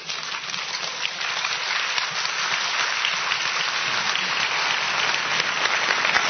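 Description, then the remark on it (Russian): Steady applause from an audience, a dense crackle of many hands clapping at an even, sustained level for several seconds without pause or voices. “Дайте услышать, за что мы хлопаем.”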